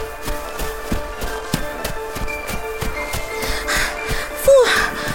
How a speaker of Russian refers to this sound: По снежной дорожке бежать — запыхаешься.